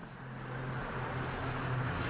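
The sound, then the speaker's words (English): A steady low rumble of road traffic fills the background of a voice call, a continuous wash of engine and tyre noise from many cars on a road very close by, fairly quiet with no voices. “I'm also very close to a road. There's a lot of cars.”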